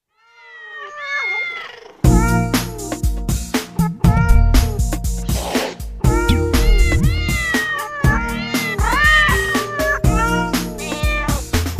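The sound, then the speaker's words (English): Cats meow repeatedly, starting with a few rising cries alone before a loud, rhythmic musical backing kicks in, with more meows layered on top throughout. “And of course, we're starting with meow, meow, meow, meow. The kitties will be up next.”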